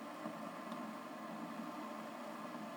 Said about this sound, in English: But that noise you hear is the heating elements heating the internal water tank, and just, you know, the noise from that.